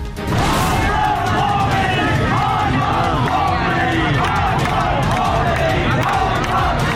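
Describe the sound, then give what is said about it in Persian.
A large crowd of protesters in Iran chants slogans against the leaders of the Islamic Republic loudly and continuously, many voices merging into a dense roar, with a sharp crack or bang near the start; security forces fire shots into the air. “شعار معترضان علیه سران جمهوری اسلامی و شلیک هوایی نیروهای امنیتی.”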